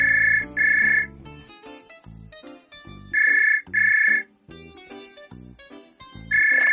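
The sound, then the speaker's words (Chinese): A telephone rings in short paired bursts, repeating three times, loud, over a bed of bright, plucky background music with no one speaking. It is an incoming call to a drink shop in the South District of Tainan, Taiwan, from a man ordering 56 drinks. “台南市南区一家饮料店，某一天接到一名男子来电，狂订了56杯的饮料。”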